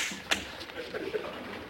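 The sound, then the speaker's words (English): A single sharp slap across the face cracks out early on, loud and brief, followed by faint, indistinct voices murmuring in the background. “Dare you slap me?”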